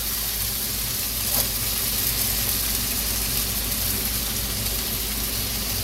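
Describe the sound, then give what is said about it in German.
Hollandaise sauce sizzles steadily as it is poured over fried potatoes in a hot frying pan with the heat switched off, a continuous hiss with a low hum underneath and a brief crackle near the start, with no one speaking. “Jetzt stellen wir mal die Pfanne aus und löschen diese Bratkartoffelgeschichte.”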